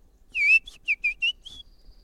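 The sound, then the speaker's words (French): A person whistles an imitation of a European robin's song: a short series of high, sliding, bird-like phrases, clear, with a faint thin tone trailing off at the end. “C'est lequel, ça, que vous faites? Celui-là, c'est le rouge-gorge.”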